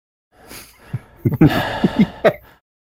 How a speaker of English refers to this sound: Yeah, so a little room tone with some breathing in it, room tone plus.